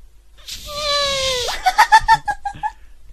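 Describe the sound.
A person's voice imitates an elephant trumpeting: a breathy, strained wail held for about a second that ends in a sharp upward squeak, followed by a quick run of short, rhythmic vocal bursts.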